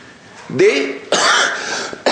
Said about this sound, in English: I'm sorry, I'm not feeling well today. I'm bad throat, bad cough, temperature, everything, inshallah.